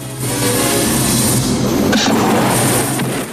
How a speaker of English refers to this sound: A vast explosion fills the sky.